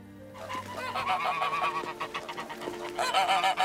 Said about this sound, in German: Früh am nächsten Morgen trieb die Unglückliche mit Kürtchen zusammen die Gänse aus dem Hof.